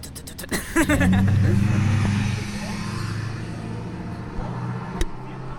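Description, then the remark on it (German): An old silver car with number 8 and small tires rumbles loudly, its low throbbing engine note rising briefly at the start and then settling into a steady idle, with a few sharp clicks and a faint sharp knock near the end. “Gerade hören wir ein altes Auto.”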